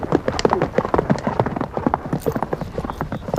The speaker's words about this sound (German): Einem schnellen Galopp, der aber nie hektisch, sondern mehr schaukelnd rhythmisch bleibt, erreichen wir einen kleinen Wald. Überall liegen Hölzer quer, die Pferde steigen wie selbstverständlich darüber weg.